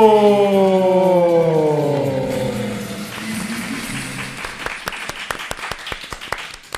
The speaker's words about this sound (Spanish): Oye, aplausos de verdad, oye.